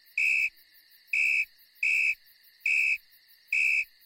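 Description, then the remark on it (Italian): Loud, shrill blasts of a whistle taken from a backpack repeat at a steady pace, each held briefly, six long blasts giving the coded emergency signal, sounding alone with no voices. “Rosa prese il fischietto dallo zaino e fece 6 lunghi fischi. Il segnale in codice che indica emergenza.”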